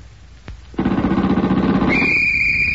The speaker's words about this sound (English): Watch the red light, Captain. As soon as that goes on, the sound man will give us a couple of seconds of machine gun and a police whistle.